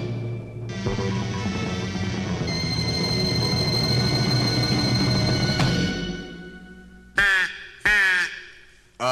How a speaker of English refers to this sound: I'm a duck.